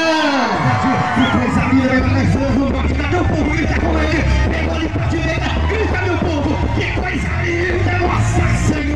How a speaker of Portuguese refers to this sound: Por isso eu quero ouvir cada grito das mulheres bonitas.